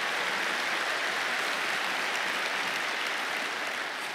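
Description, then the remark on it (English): A crowd of many people clapping their hands in a dense, steady wash of applause that holds at an even loudness for about four seconds, with no voices standing out. “Clap your hands and shout amen, somebody.”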